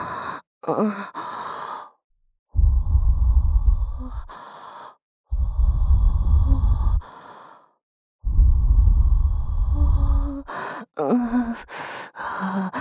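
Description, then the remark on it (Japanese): Slow, soft breaths exhaled into the listener's ear, three long airy sighs with a low rumble, separated by short quick inhales and brief pauses. No speech. “お耳に吐息を、”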